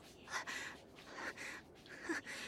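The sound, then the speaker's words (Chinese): Heavy, breathy panting on a subway train, fairly loud, with three or four rhythmic inhale-exhale cycles in quick succession and no talking. “我就是觉得地铁有点慢，喘息的声音稍微大了一点而已。”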